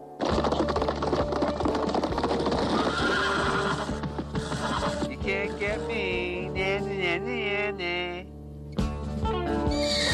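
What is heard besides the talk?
horse neighing and whinnying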